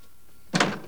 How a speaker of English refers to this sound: On his way out, he looks back at Philip as he rolls over in bed. After a few moments, Alex finally goes, closing the door behind him.